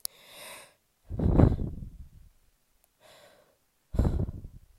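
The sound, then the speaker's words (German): Four strained, gasping breaths of a panicking person struggling to breathe, alternating airy inhales with heavier, rougher exhales, separated by short silences. No talking. “Ich höre, wie ich Luft hole.”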